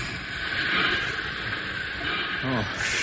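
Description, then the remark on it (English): A train grinds along with a steady, loud rushing hiss as it brakes, slowing through curves as it comes to a stop, the noise holding constant, and a brief voice is heard near the end. “Drag of curves on rest of train, slowing it down. Curve. He's stopping.”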